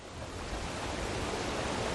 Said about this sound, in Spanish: Sonido relajante, el de las olas, para situarnos en la playa de San Lorenzo